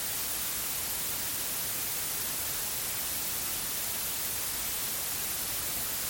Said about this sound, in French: Règle le volume de tes haut-parleurs comme si c'était la voix de quelqu'un à qui tu parles. Mets-toi devant le haut-parleur d'où vient le bruit blanc et regarde-le dans les yeux.